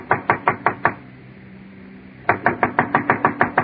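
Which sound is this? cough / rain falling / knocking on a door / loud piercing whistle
knocking on a door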